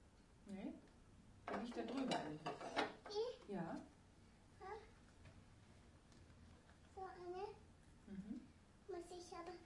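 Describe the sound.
A toy cash register clacks and rattles in a short burst of plastic clicks as a button is pressed to open it, while a child and an adult talk on and off throughout.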